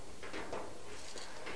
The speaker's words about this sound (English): Metal door. Metal door make a lot of noise.